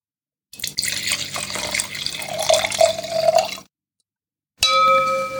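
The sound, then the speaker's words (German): Wine, the last of a bottle of Grauburgunder from Weingut Winter, splashes and gurgles steadily into a glass for about three seconds, a faint rising tone building as it fills. After a short silence, a bright, sustained ringing chime begins. “Und den letzten Rest dieser Flasche, davon wurdest du gerade Zeuge, habe ich mir soeben ins Glas gegossen.”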